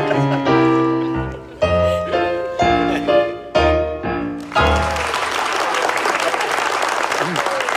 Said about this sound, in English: Thank you. But there's no need for your applause.